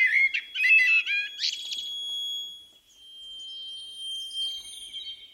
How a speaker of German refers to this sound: Amsel.